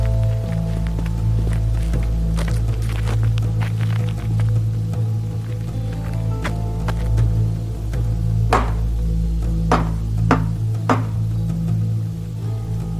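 A handful of sharp, loud knocks on a house in a village at night, the last three spaced in a quick irregular rhythm, over a steady low hum and soft scuffing sounds.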